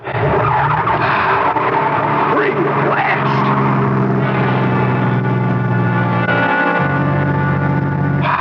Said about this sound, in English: There's the road. And Charlie's car. Please start.